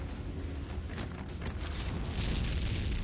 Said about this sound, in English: I hear explosions, but I don't see them.